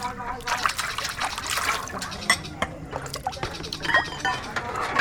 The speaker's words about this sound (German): Die Frauen spülen Geschirr und kümmern sich um das Essen.